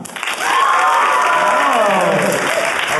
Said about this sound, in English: It's great to receive applause on behalf. Thank you. Appreciate it.